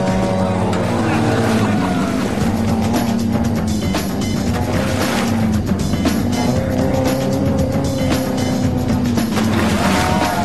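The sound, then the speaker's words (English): A car engine revs hard, floored, as it churns through lake water with its three-minute timed run running out, its loud droning pitch rising and dipping over a constant wash of splashing spray. “With his 3 minutes running out fast, Rich has to floor it.”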